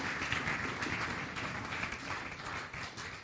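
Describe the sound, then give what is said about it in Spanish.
An audience at a Spanish-language church service applauds for Jesus, many hands clapping at once in a dense, continuous patter that holds at an even loudness for the full few seconds, with no clear voices above it. “Denle un aplauso a Jesús, hermano, se lo va a dar.”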